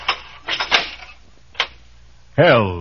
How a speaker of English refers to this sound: Uh-oh. I hear footsteps coming down the corridor now.